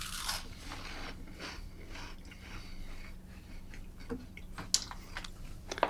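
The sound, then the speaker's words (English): Crunching of a crispy prawn and cabbage snack, a steady run of brittle, crackling bites with a few sharper snaps near the end, no one speaking. “Alright, I'm moving away for a crunch.”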